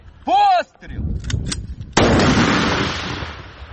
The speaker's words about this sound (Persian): میدان نبرد در نزدیکی بخمود گرم است و تانک های اوکراینی به سوی نیروهای روس شلیک می کنند.